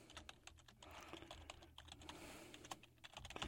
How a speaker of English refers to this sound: and as I go ahead and prepare to get ready to look at the markets and compute and clicking on the old computer, got to enter the old password here.